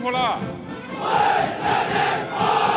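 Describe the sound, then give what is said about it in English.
Chinese soldiers shout together in unison, "Follow the party," replying to President Xi's call of "Hello, comrades" as he inspects the troops standing through the sunroof of a black limousine, a loud rolling chant of massed voices rising and falling in waves, with his single call briefly audible at the start. “The soldiers replying, "Follow the party."”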